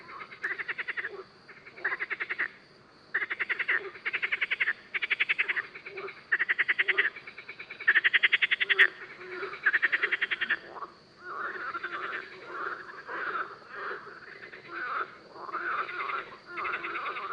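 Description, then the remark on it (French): Marsh frogs croak at night at the pond of Beaumont in loud, rapid pulsed bursts, calls repeating in quick rattling runs with short gaps, several frogs overlapping over a faint low background hum. “Elle aussi se laisse aller au petit exercice des grenouilles rieuses, de nuit à la parabole, à l'étang de Beaumont.”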